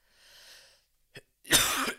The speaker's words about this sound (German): Entschuldigung, Leute. Also, ich glaube, ich muss jetzt mal kurzen Gang runterfahren. Ganz schön viel gehustet hier.